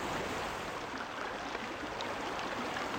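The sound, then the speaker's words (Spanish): A continuous, rushing roar of rough sea water against rocks, steady and fairly loud throughout with no distinct individual crashes standing out, and no voices. “Al fondo, escucho el rugido de un mar embravecido azotando las rocas.”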